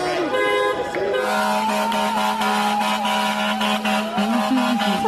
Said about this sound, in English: Tonight I'm here at Gracie Mansion. I will be joined by a few hundred individuals who will be coming here with their vehicles, honking their horns in front of Gracie Mansion. Look at that.